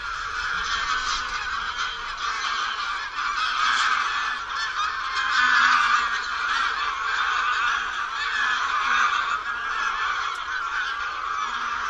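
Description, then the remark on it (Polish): A large flock of greylag geese taking off gives a dense, continuous chorus of hoarse, identical, repetitive honks, loud, swelling slightly as the birds rise together, with no voices present. “Podrywające się do lotu stado wydaje serię identycznych, chrapliwych gęgań.”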